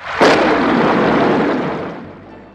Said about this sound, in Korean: 바로 그때 별안간 큰 지진이 발생하더니 귀가 찢어질 듯한 천둥 소리가 들리기 시작했어요.